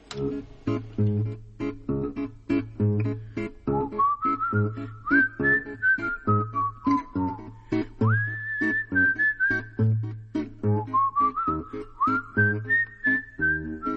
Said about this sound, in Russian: Ты что, мой друг, свистишь?